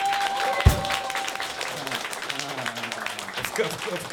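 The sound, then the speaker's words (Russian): Sustained audience applause as the band's musicians are introduced, a dense crackle of many hands clapping throughout, with a man's voice talking over it and a sharp thump near the start. “Мне громче, Хлопли. Тебе, конечно, громче.”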